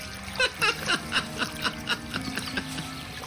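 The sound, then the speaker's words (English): Water splashes in a quick, uneven series of sloshing bursts as two people push and shove each other in chest-deep water, moderately loud, with a low background hum underneath and no voices. “The two pushed and shoved each other in the chest-deep water for a few minutes”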